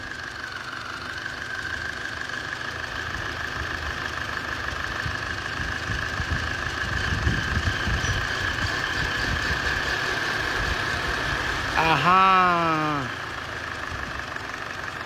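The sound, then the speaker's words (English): A car engine idles steadily, a constant low rumble with a faint whine on top, running normally, and near the end a man briefly says something over it. “Or even can you listen to the sound of the engine?”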